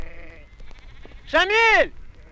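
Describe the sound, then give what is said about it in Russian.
A single loud, wavering sheep bleat rings out, about half a second long, after a stretch of quiet outdoor ambience with faint voices in the background, as a herd of sheep is slowly driven in the mountains at sunset. “Мы медленно сгоняем стадо. Ритм работы невольно захватывает. Вот овца отбилась, пошла куда-то вправо.”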